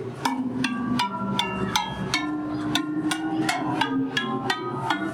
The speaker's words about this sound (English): When you strike the metal rods, they vibrate at different frequencies according to their lengths. The longer the rod, the slower the vibration, and the lower the pitch of the sound.